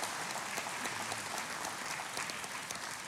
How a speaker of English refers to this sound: Well, I love how that's such a, yes, let's clap.